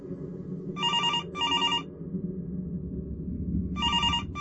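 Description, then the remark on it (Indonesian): A hotel telephone rings with an incoming call in short electronic trilling bursts: two quick rings close together, a pause, then another begins, over a low steady background hum with no one speaking. “Lalu kali ini kembali ada telpon yang masuk.”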